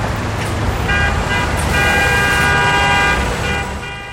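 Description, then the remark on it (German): Loud, dense road traffic rumbles steadily at the edge of a town with many cars and houses, while several car horns honk in overlapping sustained blasts, continuous throughout. “Da waren viele Autos und Häuser. Das hörte sich sehr laut an.”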